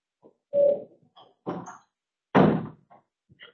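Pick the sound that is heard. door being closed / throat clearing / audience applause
door being closed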